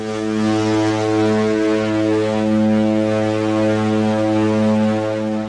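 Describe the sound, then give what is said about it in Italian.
A ship's horn sounding as the ship nears port blasts in one long, steady, deep tone with rich harmonics, loud and unbroken for the whole stretch, with no talking. “Eccolo il suono della nostra sirena.”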